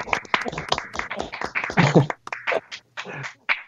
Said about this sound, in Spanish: Bueno, pues aplauso. Aplauso, pero fuerte